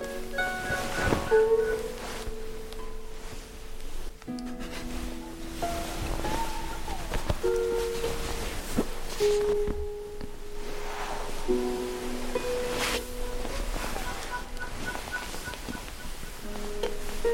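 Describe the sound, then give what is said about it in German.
A steady, continuous wash of open-water waves surrounds swimmers far out in deep water, rolling and sloshing without pause, with soft sustained tones humming underneath and no voices. “Schwimmen wir wieder zurück. Aber das tiefe Wasser ist herrlich.”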